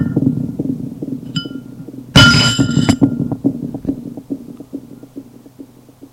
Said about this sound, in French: On a frappé à la porte. Ça l'a fait sursauter et lâche ce flacon qui tombe à terre et se brise.